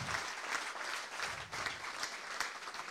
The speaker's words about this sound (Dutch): En geef ze nog even een groot applaus ter bemoediging van de volgende raadsperiode.